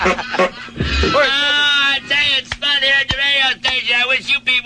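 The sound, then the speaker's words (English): A rubber bulb bicycle horn honks loudly several times in quick, uneven succession, each squeeze a bright, nasal, goose-like blare with sharp breaks between the honks. “Got the chimes. Got the bicycle horn.”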